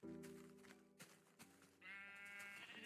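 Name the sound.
sheep bleating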